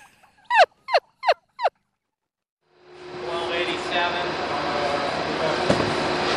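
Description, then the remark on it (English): Heritage turkeys on a farm gobble while mating, in a quick burst of four loud warbling calls, followed by a short silence and then a steady wash of broad background noise. “Well, we're making turkeys. Like I said, they still breed naturally.”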